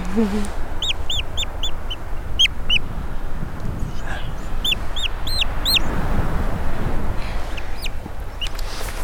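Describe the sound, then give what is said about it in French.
A European storm petrel chick, adult-sized but still covered in down, calls in quick clusters of thin, high, rising squeaks, pausing between bursts, over a steady backdrop of rustling, windy noise, during a health check before going back to its burrow. “Là, on entend le petit cri qui pousse, vas-y, dis bonjour.”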